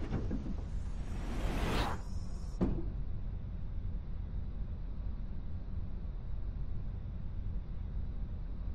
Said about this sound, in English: Confirm that all entry and cargo doors are secure. Closed doors. Closing doors.